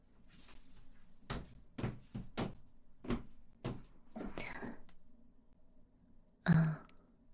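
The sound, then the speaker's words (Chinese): A series of sharp knocks on a door, then a soft rushing sweep as the door, not fully closed, is pushed open and someone enters the room, followed by a heavier thud near the end. No one speaks. “我刚刚有敲门，但是门没有关紧，你也没有回答我，我就进来了。”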